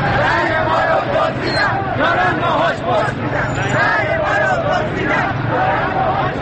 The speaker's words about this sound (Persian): خیابان زیر پای معترضان است. امروز شنبه 30 خرداد است و صدای فریادهای معترضان بار دیگر در خیابان‌های ایران پیچیده است.